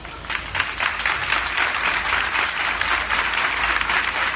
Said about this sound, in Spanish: Así salía José Antonio Reyes, que era llevado a su pueblo natal, a Utrera, donde hoy, desde el ayuntamiento hasta la iglesia de su Utrera querida, solamente recibía aplausos.